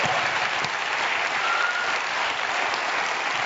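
audience applause

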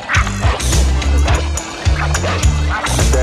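small dog barking

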